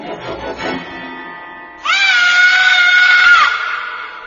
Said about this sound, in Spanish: Los jóvenes oyeron un grito desgarrador. Al principio pensaron que se trataba de una broma, hasta que escucharon el segundo grito y volvieron para buscar a aquel niño.